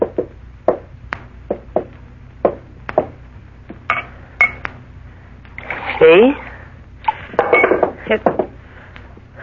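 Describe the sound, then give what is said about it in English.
A series of sharp clinks and taps of a water pitcher against a drinking glass, irregular, followed by a burst of water pouring into the glass, with a brief voice speaking once. “That water pitcher there on the table. Why don't you get it?”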